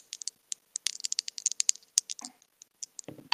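Men playing a game of dice: dice clatter and rattle in a rapid, irregular burst of sharp, bright clicks, then slow to a few scattered taps with a soft tumbling rumble near the end. No voices.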